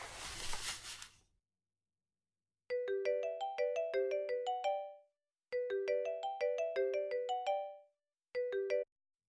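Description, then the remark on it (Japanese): After a brief burst of rustling noise, a phone's electronic melodic ringtone plays in repeating phrases while a call is being placed, sounding twice in full before a third round cuts off; clear, with no talking. “待ち合わせの時間はギリギリかな。電話しとこ。”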